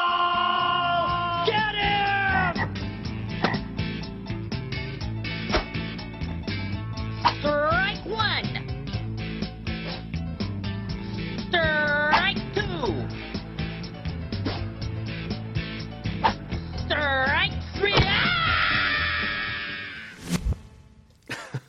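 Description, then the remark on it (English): A sound effect of a frog being hurt in a Beavis and Butt-Head short (frog baseball): a series of strained, warbling squeals and croaks that rise and fall in pitch, repeating over a dense, noisy clatter before cutting off abruptly. “Apologies to anyone who's particularly sensitive to fictional audio of frogs being the sensitive to sound effects.”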